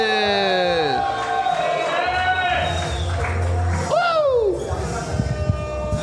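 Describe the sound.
A crowd cheers, with loud whoops and sliding shouted voices rising and falling over a steady roar, and scattered clapping building toward the end.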